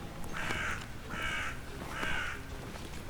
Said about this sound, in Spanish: Y el sonido del cuervo europeo permanente.